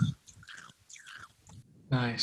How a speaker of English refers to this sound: Now I'm going to chew some ice into the microphone.